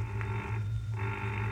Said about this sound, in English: Oh, wait a minute. Answer the phone